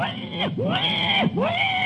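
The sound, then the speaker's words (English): A voice imitates a wild boar's cry with rising and falling squealing tones, loud, repeated in two swooping cycles with no actual words. “The cry of the wild boar.”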